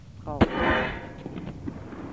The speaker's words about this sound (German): An diesem Vormittag will die Chemikerin die Sprengwirkung von Knallern demonstrieren. Dazu hat sie aus Holz und Knetmasse eine Hand geformt, in der sie einen Böller explodieren lässt. Zunächst einen legalen.